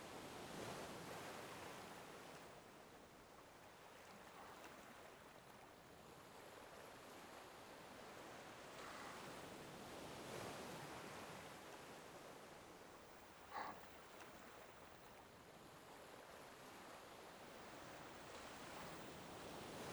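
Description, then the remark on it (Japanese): Steady surf washes onto a sea shore, a broad hissing roar that swells as waves break, with no voices, just the continuous ocean sound and a brief small knock midway. “それにしても、あんたも全然飽きないわよね、海を見ることに。”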